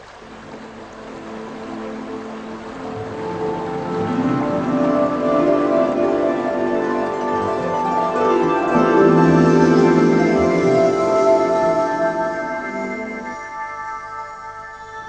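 A small waterfall pours steadily, a continuous rushing wash that swells through the middle and eases near the end, with sustained tonal notes layered over the water.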